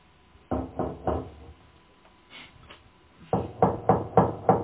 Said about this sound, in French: Ça frappe. C'est l'infirmière.